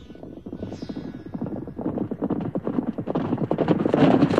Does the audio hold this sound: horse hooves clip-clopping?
yes